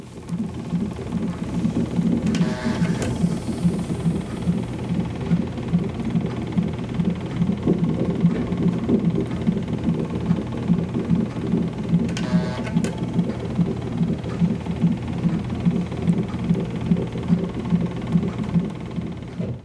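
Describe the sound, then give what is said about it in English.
Hospital labor room equipment drones on in the middle of the night: a steady, dense mechanical whirring and pulsing hum from the baby's monitor and leg compression devices, broken twice by brief, brighter bursts of the printer printing a contraction chart, with no one talking. “So it was like the baby on the monitor. There's the printouts every so often of like my contraction chart.”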